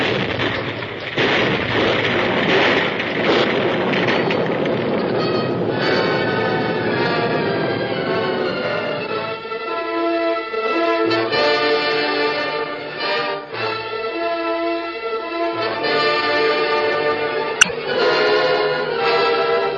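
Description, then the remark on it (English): A big explosion in a temple, set off by a trap, erupts into a loud, sustained roaring rumble that fills the first several seconds, then gives way to dramatic music with no voices. “Sure made a big explosion.”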